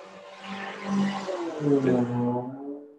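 A drag-racing motorcycle outside drones past, its buzzing harmonic tone shifting downward in pitch partway through as it goes by, swelling in loudness and then fading slightly toward the end. No one speaks.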